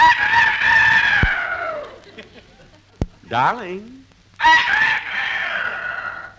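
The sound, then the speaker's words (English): A rooster crows loudly in the morning, drawn-out strained calls at the start and again near the end, with a short wavering vocal sound and a single spoken word between them. “No, that's the rooster. It's morning.”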